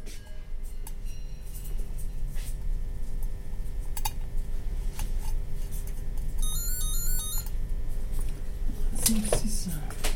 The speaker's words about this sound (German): nimmt das Telefon ab.